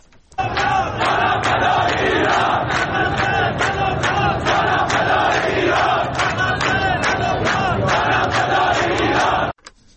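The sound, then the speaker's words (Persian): A large protest crowd in Behbahan, Iran chants slogans in unison, mostly against the Islamic Republic's support policies for some countries in the region, loud and sustained, with rhythmic shouted bursts repeating steadily for nearly ten seconds before cutting off abruptly. “بله بهبهان رو هم شنیدید که باز هم در اونجا هم ما شاهد این هستیم مرداد که شعارها بیشتر سمت و سوی این داره که سیاست‌های حمایتی جمهوری اسلامی ایران از برخی کشورهای منطقه موجب شده که این اعتراض‌ها صورت بگیره.”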